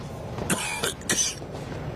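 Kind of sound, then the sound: human body sound, coughing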